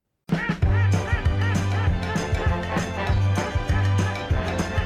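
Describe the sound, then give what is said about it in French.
A loud, busy burst of duck quacking, many harsh nasal calls overlapping in quick succession and continuing without pause for several seconds, dense like a crowded flock. “Va te mettre au coin, coin, coin, coin, coin, petit canard.”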